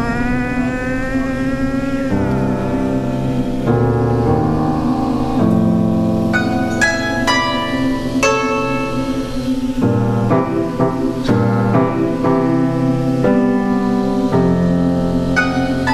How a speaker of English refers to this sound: But then I hear, okay, then the bus is going... the sort of the whine of the engine underneath.